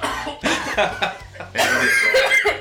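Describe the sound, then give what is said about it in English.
A woman's loud fit of coughing: several sharp, raspy bursts in quick succession, then a longer, rougher stretch of hacking coughs near the end. “I'm coughing now, oh my God.”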